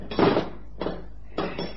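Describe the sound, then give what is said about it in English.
Three heavy metallic hammer blows on a punch against a steel safe as someone tries to open it. The blows are unevenly spaced, each a sharp clank with a brief ringing decay, fairly loud with no voices. “give me the hammer and the punch.”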